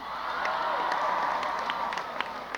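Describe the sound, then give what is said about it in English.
An audience at a live music performance claps and cheers in a steady, dense wash of applause, with a few sharper individual claps and crowd voices mixed in, holding at an even level throughout. “Thanks for clapping.”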